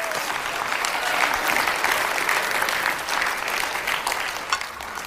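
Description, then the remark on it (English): An audience applauds as praise to God, dense clapping holding at an even level for several seconds, with scattered voices calling out in the mix. “Why don't you give God a praise or a clap or a shout or something?”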